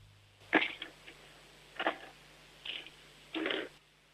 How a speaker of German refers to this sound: Jetzt hätte ich gerne, dass du vielleicht mal ein paar Stifte nimmst und sie über den Tisch rollst, so dass wir sie hören. Oder leer vielleicht einfach mal deine Stiftebox aus oder so. Ja, alle deine Stifte hören.